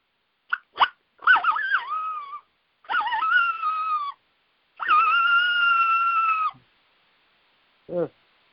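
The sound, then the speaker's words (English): A coyote howl imitated by a person on a turkey diaphragm call: a couple of sharp yips, then three wavering, harmonic howls growing longer, and a final short yelp, fairly loud with no talking. “That's actually the call that I learned how to do from you, that the coyote call.”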